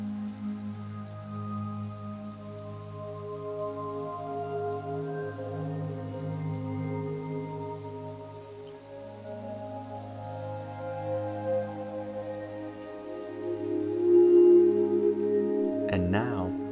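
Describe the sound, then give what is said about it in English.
Light rain falls steadily as a soft, continuous patter, blended with sustained, droning musical tones that swell slightly near the end. “As that light rain begins to let up, another baño enters your mind.”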